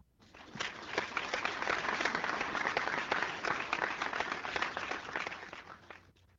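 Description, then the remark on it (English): A burst of crowd applause, many hands clapping in a dense, steady wash that swells quickly, holds for several seconds, then fades out. “Now, if you guessed I was going to say biliary patency, flush the gallbladder correctly, then I applaud you.”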